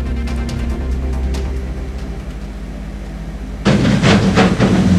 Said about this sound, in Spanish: Está explotando. Esa fue la explosión de la cámara